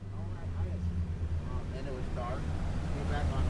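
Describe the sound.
A fishing boat named Fishing Fool 4, loaded with poles, bait and four fishermen, pulls out of a private dock in the town of Isleton at 7 a.m. on a Tuesday; its engine rumbles low and steady in a continuous drone with faint, indistinct voices in the background.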